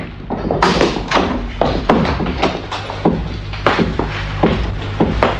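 Loud knocking on a wooden door by the first guests arriving on a wedding morning: a long run of solid, hollow thuds in an uneven rhythm over a faint low hum, with no voices.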